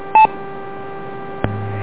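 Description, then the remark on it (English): Interference on an amateur radio net from the Rochester 655 repeater keying up: over a steady hiss, a short electronic beep, then a sharp click and a low droning buzz, with a brief tone at the end. “Well, somebody's keying up the Rochester 655, so it's wiped me out completely.”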